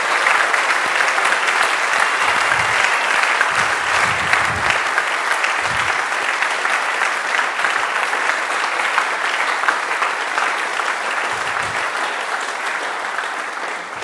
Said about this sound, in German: Und ich finde, das ist mal einen kräftigen Applaus wert.